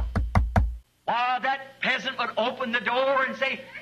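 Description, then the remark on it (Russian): Three quick, solid knocks on a door, fairly loud, followed after a brief pause by a person talking. “И он стучит.”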